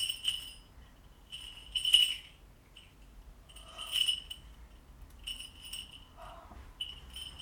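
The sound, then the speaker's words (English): Small toy jingle bells jingle in bright, metallic bursts, shaken in irregular clusters with short pauses between, fairly quiet overall with a faint low rumble underneath. “There's your jingle bells.”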